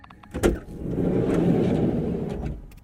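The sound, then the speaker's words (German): A sharp latch click, then the door of a white VW T4 bus rumbles along its track for about two seconds at steady, fairly loud volume before stopping; no one speaks. “Das ist ein T4 VW-Bus.”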